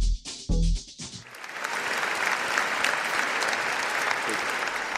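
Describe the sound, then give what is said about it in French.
After a brief burst of speech or jingle at the start, the whole audience in Notre-Dame cathedral of Reims breaks into steady, sustained applause on a Saturday afternoon, welcoming Mgr Étienne Véteux as auxiliary bishop of the diocese of Reims and the Ardennes at his ordination, filling the reverberant space evenly to the end. “Des applaudissements nourris de toute l'assemblée présente à la cathédrale Notre-Dame de Reims, c'était samedi après-midi, pour partager la joie d'accueillir Mgr Étienne Véteux comme évêque auxiliaire du diocèse de Reims et des Ardennes.”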